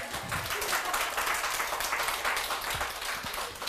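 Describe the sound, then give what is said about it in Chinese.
Steady applause from an audience fills the whole stretch, a dense, even wash of many hands clapping at once, fairly loud and continuous without any talking over it. “值得點啊？值得鼓掌啊！”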